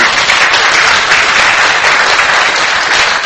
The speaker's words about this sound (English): we've got four people who are choosing. And they are choosing to take ground for God. Isn't that amazing? Let's give them a big round of applause for that.